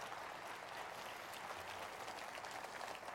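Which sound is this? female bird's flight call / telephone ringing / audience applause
audience applause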